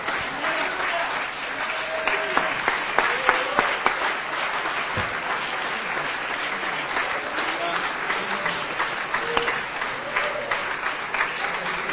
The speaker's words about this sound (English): But right now, aber jetzt, let's get ready for a miracle. Lass uns bereit machen für ein Wunder. Let's just clap our hands. Lass uns in die Hände klatschen zum Herrn.